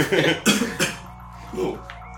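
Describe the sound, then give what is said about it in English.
A few sharp coughs burst out in quick succession, loud and raspy, followed by a softer throaty murmur as the person settles. “I'm coughing.”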